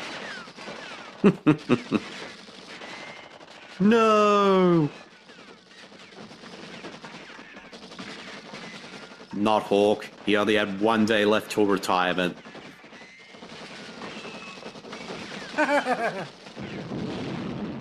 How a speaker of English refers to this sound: Oh, it blew up. Finally. Took enough bullets.